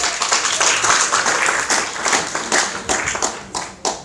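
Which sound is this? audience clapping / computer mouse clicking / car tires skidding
audience clapping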